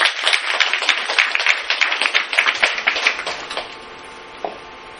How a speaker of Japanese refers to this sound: And we want to welcome you. We're privileged to have you as a speaker tonight. では拍手を持ってお迎えしましょう。